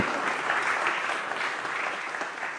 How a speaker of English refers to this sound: I think a round of applause would be appropriate